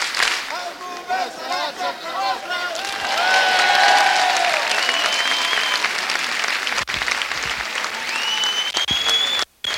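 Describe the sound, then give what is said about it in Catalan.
Sustained applause from a crowd in the town square of Sitges welcoming the arriving volunteer firefighters, a dense wash of clapping with some cheering and whistles rising over it, continuing steadily for several seconds before cutting off abruptly near the end. “Doncs aquest aplaudiment pels integrants del cos de bombers”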